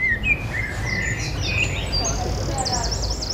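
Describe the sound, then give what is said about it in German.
Several birds chirp and warble in lively overlapping song, with rising whistles and trilling phrases over a low, steady outdoor rumble, on a gentle hillside garden with blooming apple trees and tall green grass at the impressionist museum in Giverny. “Vogelgezwitscher, blühende Apfelbäume und sattgrünes hohes Gras.”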